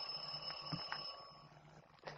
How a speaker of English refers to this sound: I'll ring the bell.